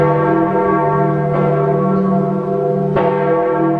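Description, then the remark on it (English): The large bells of St. Peter's Basilica in Rome, Italy, ring out loudly with a rich, sustained hum, new strikes landing roughly every one and a half seconds over a continuous resonant drone, with no voices. “The bells of St. Peter's Basilica ring out across Rome.”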